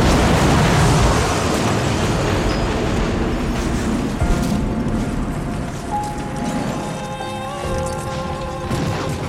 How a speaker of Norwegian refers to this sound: I stedet høres en annen lyd, Et forferdelig brak gir ekko over hele flyplassen I det KLM-flyets motorer og understell kolliderer med Pan Am-flyet.